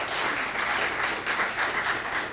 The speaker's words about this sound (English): Let's hear another round of applause for them and for our Lord.